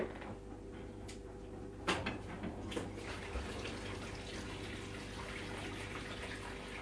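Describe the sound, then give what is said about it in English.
Steady rush of water running inside a washing machine during its rinse while washing sleeping bags, with a low machine hum underneath and a couple of brief knocks early on. No one speaks. “That's the water when you rinse.”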